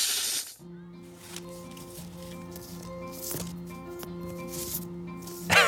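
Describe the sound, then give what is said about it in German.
A sharp, breathy snake hiss opens, then gives way to a plucky melodic jingle, with a second short hiss bursting in right at the end. “Heute mit sich heranschleichenden Zungenkünstlern, den Schlangen.”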